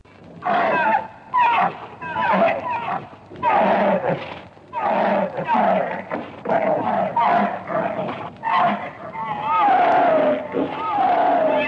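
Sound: camel vocalizing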